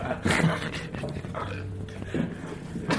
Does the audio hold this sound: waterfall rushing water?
no